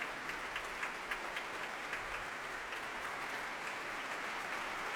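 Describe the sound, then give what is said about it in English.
A large concert hall audience applauds the guest leader of the BBC Symphony Orchestra, Elise Bortness: a dense wash of many hands clapping with scattered sharper claps, sustained at an even level for the whole stretch with no voices. “That applause is for the guest leader of the BBC Symphony Orchestra tonight, Elise Bortness.”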